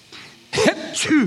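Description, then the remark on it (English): A man imitates sneezing with his voice: two close, loud bursts, each a breathy, noisy rush ending in a voiced sweep, sounding like quick back-to-back achoos. “And the boy starts sneezing.”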